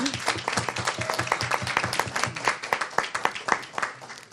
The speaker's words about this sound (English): All right, let's give them an applause if anybody's in here.